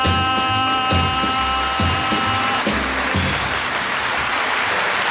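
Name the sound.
concert audience applauding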